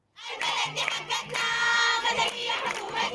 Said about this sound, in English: On the streets of Khartoum today, protesters shouted the country belongs to them, rejecting a return to autocratic rule.